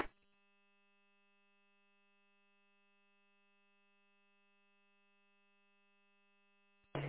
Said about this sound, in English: I don't know the GMRS call signs all that well, but I recognize those tones.